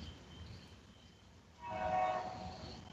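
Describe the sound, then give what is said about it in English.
A train rumbles steadily, then its horn sounds partway through, a sustained tonal blast that swells louder over the rolling rail noise as the train passes by. “And try not to get hit by the train.”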